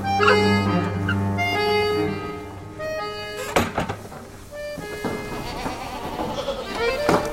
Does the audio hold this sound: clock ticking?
no